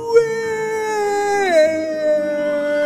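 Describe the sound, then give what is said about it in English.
A werewolf's single long howl with a rich, wavering tone that slides down in pitch partway through and then holds steady to the end, with no talking around it. “Howled the werewolf.”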